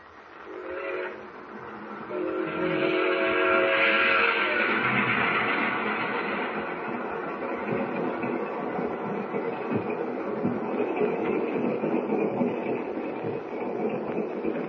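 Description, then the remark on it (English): A passenger train's whistle sounds with a steady harmonic tone near the start, then a loud, continuous rumble and clatter of the train rolling across wheat fields at night fills the rest, with no voices. “it hardly seems possible that last night we were up in the North Woods and tonight we're rolling across wheat fields.”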